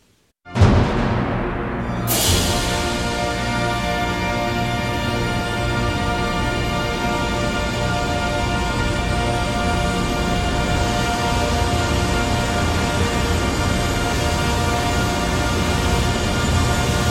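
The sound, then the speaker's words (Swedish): The final chord of Respighi's Pines of Rome, ending a concert of his three Roman poems, bursts in and holds, steady and loud, sustaining without a break for over fifteen seconds, with rich, dense orchestral harmonies and no voices. “Och det slutakkordet, det glömmer jag aldrig.”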